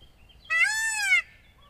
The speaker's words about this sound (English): That's a rooster. Or a chicken, rather. It picked his head up again. Oh, it's running around.